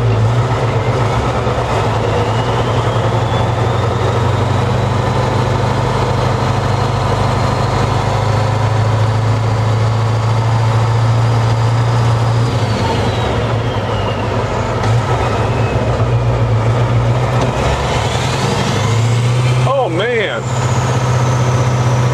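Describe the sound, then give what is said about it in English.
A heavy V8 truck engine, of the kind known in the 80s as the Whispering Giant, on the truck that Mack from the movie Cars is based on, drones steadily and loudly, while the thin whistle of its single turbocharger rises slowly in pitch, holds, then falls away, with a brief sweeping whine near the end. “And I can hear a little whistle, right? The turbocharger.”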